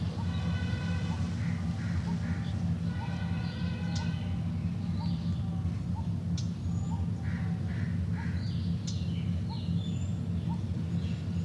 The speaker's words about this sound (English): Those birds, I think, are the ones from the cage. Pigeons, doves. Because they're being fed, they'll agree to be. They're in the cage.